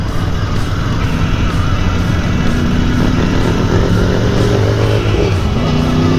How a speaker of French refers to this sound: Ah, j'aime bien parce que Marc il met l'animation dans mes vidéos avec son gros bruit de moteur. Voilà, c'est joli tout ça.